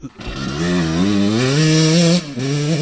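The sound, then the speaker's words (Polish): A motorcycle engine revs loudly during a practice session on the race track in Gaworzyce, its pitch climbing and holding at a high whine before briefly dropping off and surging again. No one speaks. “I dzisiaj po pierwszych okrążeniach na dzisiejszym treningu na torze w Gaworzycach widzę jakaś śruba w ręce.”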